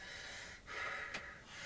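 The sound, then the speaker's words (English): Heavy breathing voiced to imitate Darth Vader and a firefighter's face mask and breathing tank: a long rasping inhale, a sharp hiss, then a slower breath out, with no talking. “That's Darth Vader, isn't it?”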